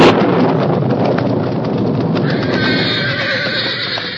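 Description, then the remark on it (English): A roan horse whinnies in fear and snorts against a steady roar of storm wind with lightning near a flooding Boulder Creek, hooves clopping underneath as it is ridden; the sound is loud and continuous, with no voices. “dawn revealed that the storm, instead of slackening, had increased.”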